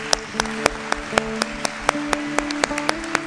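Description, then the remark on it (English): An audience at a church claps for the fathers, hands clapping in a steady, even rhythm, about four sharp claps per second, with sustained low tones humming underneath. No one speaks. “Everyone, give him a hand clap again.”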